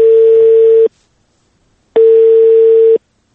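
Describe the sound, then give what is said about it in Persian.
A telephone ringback tone sounds twice, before the call is answered, on a call placed on a Thursday around dinnertime; each steady tone lasts about a second with a long silent gap between, clear with no voices. “حالا توجه شما را با آخرین نمونه آن جلب می نماییم که روز پنجشنبه طرفای شام به شماره تلفن مورد نظر تلفن کردیم. نتیجه چنین است.”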